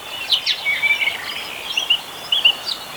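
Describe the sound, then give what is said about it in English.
Bright, scattered bird chirps and short song phrases ring out over a steady soft hiss of a little stream's running water, with no voices present. “That's got water in it. There's a little stream there and at this part of the recording.”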